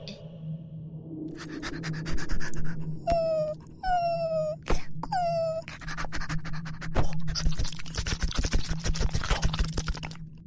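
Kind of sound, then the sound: vocal imitation, person imitating dog sounds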